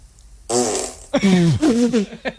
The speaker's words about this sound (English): Sounds like the buzzer fart. Hurry. They're that's amazing how dense they are that they stay where they're put. Oh, yeah, that's they're heavy. That's a toxic fart she's got.